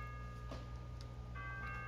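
A wall-hung clock, like half a grandfather clock, ticks quietly and steadily, its soft clicks set against a faint, sustained ringing tone and low background hum.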